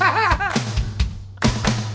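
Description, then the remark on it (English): Several loud thumps of people simultaneously banging their hands on a table, landing in an uneven rhythm over a couple of seconds, with a brief voice at the start and a steady low hum underneath. “I hate you guys simultaneously bang the table.”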